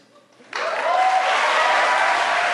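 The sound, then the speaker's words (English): A large rally crowd at Georgetown University bursts into loud, sustained applause and cheering for Bernie Sanders after a brief quiet moment, the dense clapping holding steady throughout with a raised tone of cheering voices running underneath. “The crowd there at Georgetown University very enthusiastically supporting Bernie Sanders.”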